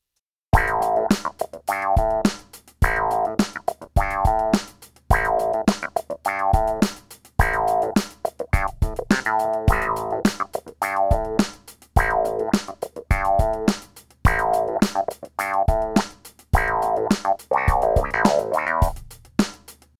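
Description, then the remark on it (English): A funky clavinet clone keyboard plays short, percussive staccato chords in a steady rhythmic riff, its tone sweeping open and closed with a vocal wah effect whose frequency is controlled by an expression pedal as a virtual wah pedal, moderately loud with no talking. “In this next demonstration, we will use our expression pedal to control the wah frequency. This will create a virtual wah pedal.”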